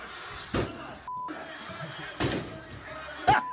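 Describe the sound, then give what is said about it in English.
Three heavy, irregularly spaced blows as a man punches holes in a wooden door with his fist, each a sharp thud over a murmuring, noisy background, with a brief electronic tone between the first two. “Yeah, he went in on that door and punched a bunch of holes in it.”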